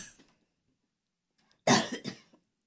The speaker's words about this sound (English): If you will forgive me, listeners, I have allergies. I'm coughing.